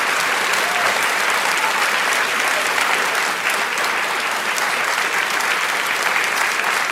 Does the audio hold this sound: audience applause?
yes